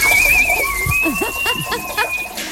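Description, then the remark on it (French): A person whistles a long, steady high note with a slight waver, holding it for about two seconds as a playful rat imitation, with faint squeaky sounds underneath. “Qui rigolent quand on les chatouille, ils pètent quand on leur tire sur la patte, ou ils sifflent quand ils font pipi.”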